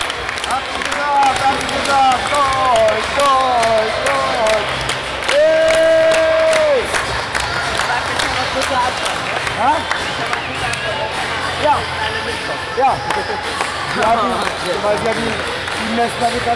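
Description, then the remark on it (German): A large crowd cheers and applauds loudly and continuously as a competitor takes first place, with dense clapping, shouts and whoops throughout, and one long held note sounding briefly in the middle of the roar. “Die Menge jubelt.”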